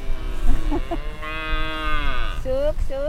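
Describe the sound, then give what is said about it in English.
Cattle moo loudly on a farm near Monkey's Eyebrow, Kentucky, in a bend of the Ohio River: a long drawn-out low call followed by two shorter rising moos, with a faint rumble of outdoor background beneath. “Debbie Dolworth has a lot of conversations with her cattle every day. They talk to me.”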